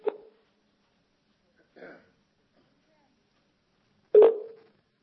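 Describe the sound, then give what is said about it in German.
A phone line's ringback tone sounds in short, spaced beeps against near silence, with a faint muffled sound in between and nobody picking up. “Der angerufene Teilnehmer antwortet nicht.”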